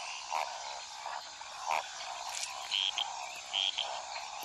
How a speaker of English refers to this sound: The throat pouches expand greatly as they croak. One purpose for calling is to find a mate. A female gliding leaf frog in the jungles of South America is listening to all the males calling around her.